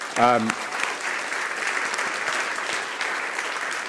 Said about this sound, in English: I want to give a big round of applause